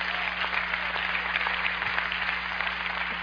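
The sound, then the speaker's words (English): A crowd claps together in a steady, dense wash of applause that holds at an even level for a few seconds, with a faint low hum underneath and no voices. “Clap if you get that revelation.”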